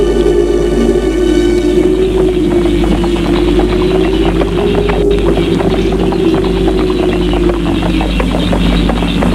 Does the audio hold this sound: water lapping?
no